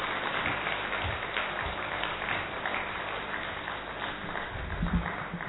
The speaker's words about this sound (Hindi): सभी तालियों से दीदी का स्वागत करें।